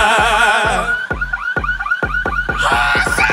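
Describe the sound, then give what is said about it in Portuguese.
Pickup truck alarms blare loudly, cycling through rapid warbling whoops and chirps in a repeating pattern over a steady, booming low pulse, with no voices. “E os alarmes das caminhonetes já começaram a disparar.”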